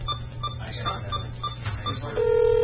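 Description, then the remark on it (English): A quick series of short electronic keypad beeps dials a phone number, followed by a steady ringing tone on the line. A faint low hum runs underneath. “We have a dial tone, and its phone number is...”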